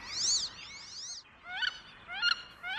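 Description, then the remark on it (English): Wood ducks at Bower Slough, a wildlife refuge by the Columbia River, give a series of about four squealing, rising whistles. The calls are thin and high-pitched with a slurred upward sweep, repeated at uneven intervals with no talking. “Bower Slough is also a favorite haunt for majestic wood ducks. Listen, can you hear their whistling call?”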